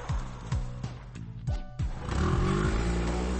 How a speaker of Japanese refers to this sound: そういった矢先、検問の50メートルほど手前で急に方向転換した車を発見した。すぐに追いかけ車を停止させる。